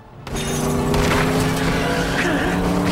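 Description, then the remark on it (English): A car engine roars in loud after a brief quiet start, a sustained revving drone with harmonic whine, as the car speeds with its headlights on straight toward a man on foot. “Jake reels at the sound of a car and headlights speed towards him.”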